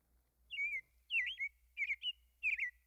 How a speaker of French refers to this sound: Là, un merle commence à chanter. Ça part. Les autres embarquent. 5, 10, 20.